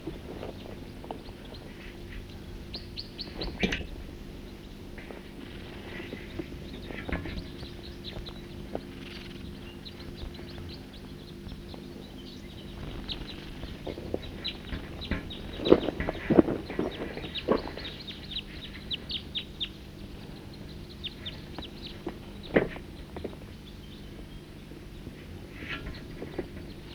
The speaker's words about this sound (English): The birds are here, drinking from the creek. Good number of them. Here come some more.